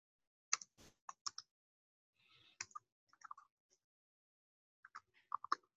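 Someone types on a computer keyboard while writing up a tutorial, in short, irregular bursts of crisp clicks with brief pauses between them, fairly quiet, with no talking.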